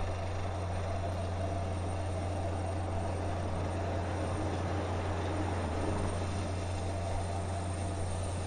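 A Japan Coast Guard helicopter's loud, steady roar with a deep droning hum underneath, holding an even level throughout as it approaches and lands on the escort ship Hyuga, carrying rescued drifters. Nobody speaks.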